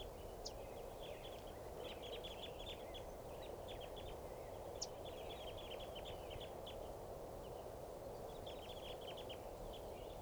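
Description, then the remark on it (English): A fairly large flock of crossbills, perched low in a tree in the middle of a corral at Barford Park, gives quick, high chipping pre-flight calls in scattered bursts, several birds overlapping, over a steady hiss of outdoor background noise. “And this is the sample of the flock's pre-flight calls.”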